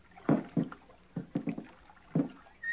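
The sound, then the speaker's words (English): Oars dip and pull through river water in a slow, uneven rhythm as two people stealthily row a boat toward fresh-cut logs floating on the surface, several splashing strokes with soft knocks of wood against the boat, moderately loud, with no voices. “Slowly, stealthily, they begin to row toward the fresh-cut logs floating on the surface.”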